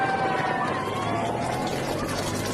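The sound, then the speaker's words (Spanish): A continuous wash of road traffic, engines humming and droning past, blended with the steady rush of flowing water in the background, all at an even, fairly loud level throughout. “Bueno, escuchamos, porque aquí se oye el tráfico y de fondo el rumor del agua.”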